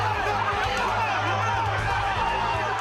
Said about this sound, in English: Crowd here at the Hard Rock Casino starting to chant the name Level.